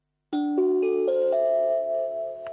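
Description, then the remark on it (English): A Binatone brick mobile phone's switch-off tone: a short melodic jingle of four bright, rising chime notes stepping upward, the last one sustained and ringing out, with no talking over it. “Here's the off tone.”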